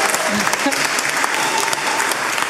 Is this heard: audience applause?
yes